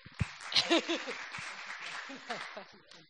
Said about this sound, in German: Applaus für Joni.